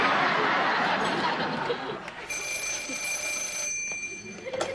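phone ringing

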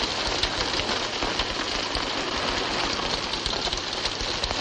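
steady rainfall

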